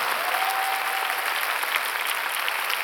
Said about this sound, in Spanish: ¿Le doy un aplauso? ¡Wow!